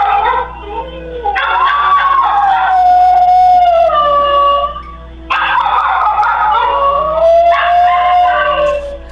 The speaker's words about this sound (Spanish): Mira, ¿te fijas cómo aúlla el perro